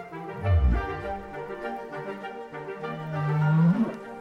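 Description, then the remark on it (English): A humpback-style whale whoop: a deep, moaning tonal call that opens with a low swell, then stretches into a long note sweeping upward at the end, rich with harmonics and no voices. “Which raises the question, if each whale has their own whoop, could they use it to identify each other?”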